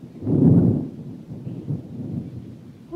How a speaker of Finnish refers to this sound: Kuulitteko? Ukkonen jyrähti. Kohta tulee raju ilma.